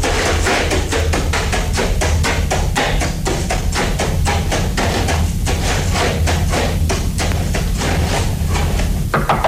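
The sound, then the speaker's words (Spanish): Loud, steady knocking on the wooden door of a humble ranch hut, a long run of rapid blows repeating for several seconds over a constant low rumble, with no voices. “Golpeó a la puerta de un miserable rancho.”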